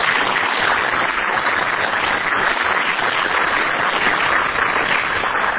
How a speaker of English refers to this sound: These first responders do it every single day. So let's give them a round of applause, because they deserve it.